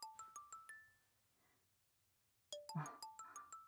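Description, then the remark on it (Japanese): A phone ringtone plays a quick, bright melody of repeating electronic notes, pauses briefly for about a second, then starts up again. It sounds fairly quiet, with no talking. “彼氏からの電話ですか。”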